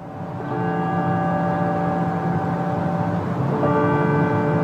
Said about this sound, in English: Churches around Colorado rang their bells at noon today for 8 minutes and 46 seconds and will do so again tomorrow and Friday to honor George Floyd and black lives.